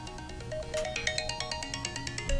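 A mobile phone rings with a bright, repeating electronic melody, its tones pulsing rhythmically over a low background hum.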